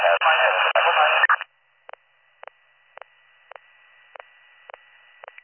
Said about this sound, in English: Your radio's full of static.